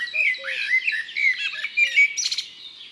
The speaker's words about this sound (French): Lui, c'est le merle, tout noir avec un beau bec jaune.